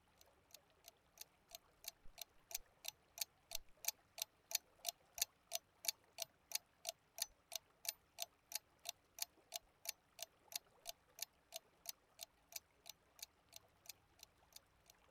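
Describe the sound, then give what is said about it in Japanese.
A clock ticks steadily and evenly, about two to three crisp ticks per second, clear against a quiet background with no voices. “服を着て時計を持った二足歩行のウサギが歩いていったね。”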